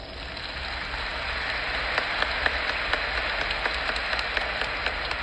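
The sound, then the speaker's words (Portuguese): A crowd at a novena in Brazil applauding in tribute to the roughly 600,000 Brazilian dead and to Brazil, a dense, steady wash of many hands clapping at once with sharper individual claps popping out, sustained at an even level throughout with no voices. “Respeito aos aproximadamente 600 mil mortos brasileiros e por nossa pátria amada Brasil, a nossa salva de palmas.”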